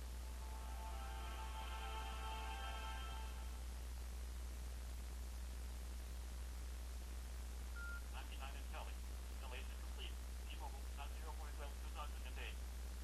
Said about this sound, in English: Okay, you'll notice it said 99% installing, and then you heard the beep, and it said installation complete, T-Mobile 4/12/2008.